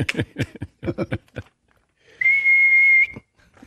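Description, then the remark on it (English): A single flat, steady whistle, allegedly signaling a fastball pitch in baseball, holds one pitch for just under a second, loud and clear, following a few short bursts of voices or crowd noise. “A video that Garcia put together shows different whistles, two different whistles. One that Garcia believes signaled fastball”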